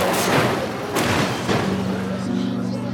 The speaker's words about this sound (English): And instead, Mantle's car accidentally knocked Betty's right off a cliff.